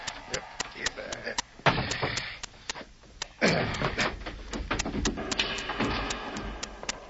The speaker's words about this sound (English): We'll toss him down into the mine for the time being. You lift the trap door. Somebody might come in.